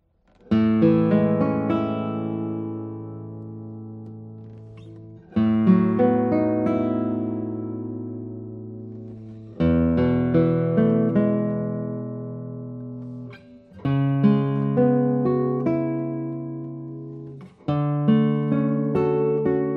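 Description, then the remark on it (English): Acoustic guitar chords strummed slowly on a lightweight guitar, the maker's own model inspired by famous historical guitars, five in all, each ringing out and fading before the next. A warm, full tone with no voices. “I have played already a few notes on this instrument. Let me play.”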